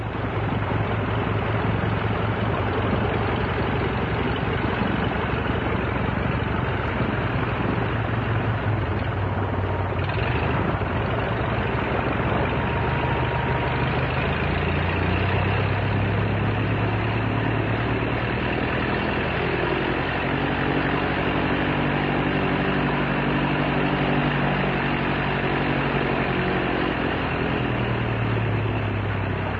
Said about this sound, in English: But this is the sound of a training plane. And this is what the... in fact, was the first aircraft engine that many people all over the country, if not all over the world, heard. And it's the sound of the famous OX-5 engine. Nice sound, isn't it?